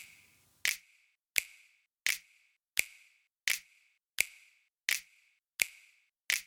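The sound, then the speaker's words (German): A steady series of nine sharp finger snaps in a compressed mix, evenly spaced about every 0.7 seconds, each a bright crisp crack with a short tail, with no voices. “Also habe ich gedacht, der einzelne Schnipser, der in der Mitte ist, der könnte doch ein bisschen Hall gebrauchen.”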